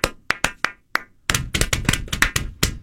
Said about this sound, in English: Is that clapping?